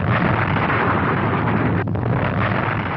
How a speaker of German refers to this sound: In der Tat rutschte die aufgewölbte Masse ein Viertel des Berges, die gesamte Nordseite, am Morgen dieses 18. Mai einfach ab. Und damit war der Weg für die angestaute Magmablase frei. Der Druck entlädt sich in einer gewaltigen Explosion.